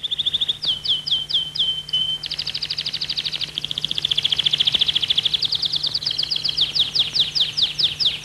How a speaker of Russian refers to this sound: сидит рядом с Чарли у открытого окна, из которого доносится пение птиц